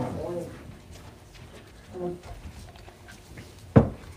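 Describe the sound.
A single loud, sharp thud of a door shutting nearby near the end, preceded by softer knocks and a faint murmur of voices in a reverberant room.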